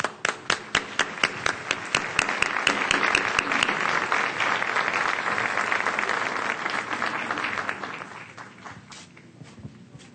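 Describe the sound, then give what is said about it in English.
An audience breaks into applause to welcome a speaker, starting with a few distinct claps that quickly swell into dense, sustained clapping before gradually thinning out and fading toward the end. “welcome Mr. Dominguez Ferraez with a warm round of applause”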